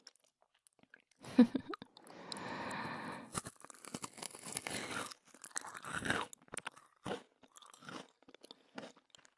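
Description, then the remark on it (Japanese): Close-up crunching and chewing of crisp food, with irregular bursts of loud crackly bites and a rustling, tearing texture, heard alone with no talking. “こんな近くだと僕の咀嚼音もしっかり聞こえちゃう？”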